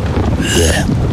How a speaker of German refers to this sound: Ja. Regen.